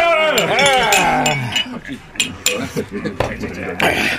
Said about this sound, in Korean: 자, 다들 수고했어. 한잔하자. 자, 짠!